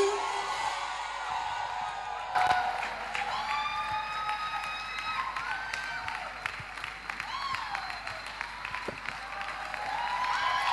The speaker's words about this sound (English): Ladies and gentlemen, …, with a resounding round of applause and a standing ovation, please join us as we make welcome to the stage